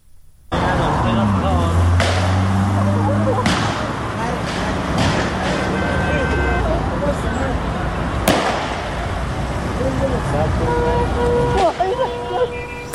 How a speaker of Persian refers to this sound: ما صدای تیراندازی از نوشهر رو هم داریم.